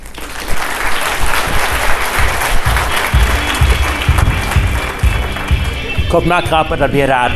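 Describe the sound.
An audience applauds with dense, steady clapping for about six seconds. Toward the end the clapping thins and a voice begins speaking over it.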